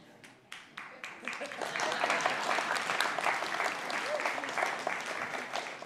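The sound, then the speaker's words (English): A few scattered claps at first, then applause from a small group swells into steady, dense clapping that holds at a moderate level to the end. “Nobody wants to clap for me or anything.”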